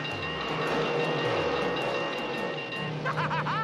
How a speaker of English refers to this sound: The train smacks into him.